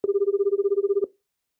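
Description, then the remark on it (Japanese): A smartphone rings with a rapid, warbling electronic trill for about one second, steady and fairly loud, then cuts off abruptly into silence. No voices. “あ、弟くん、電話鳴ってる？”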